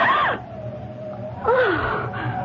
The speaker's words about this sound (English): As he passes a darkened doorway, he hears a gasp.